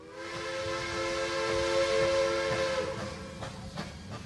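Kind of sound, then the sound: vehicle, train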